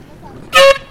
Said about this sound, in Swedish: Fick hon en tut.